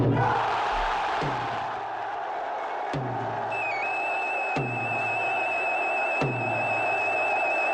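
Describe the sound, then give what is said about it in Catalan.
A dense festival crowd outside Can Olivà cheers and roars without pause as the Sant Joan festival of Ciutadella officially begins at 2 p.m., erupting at the first note. Sharp regular thumps come every second or so, and a steady high piping tone joins partway through. “Ha estat ben puntual a les 2 del migdia i amb la primera nota ha esclatat l'eufòria a l'exterior de Can Olivà.”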